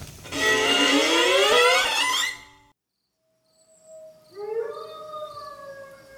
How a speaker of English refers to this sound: What was that? It sounds like some sort of wild dogs. The howling is faint. They are way too far away.